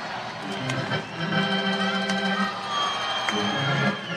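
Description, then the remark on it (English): A large baseball crowd at the Saints' final game at Midway ballpark roars and cheers in a steady, loud wash of voices as a freight train rumbles past the outfield, with sustained tonal sounds running through the noise for the whole stretch. “the crowd cheered a classic Midway tradition, a freight train rumbling past the outfield.”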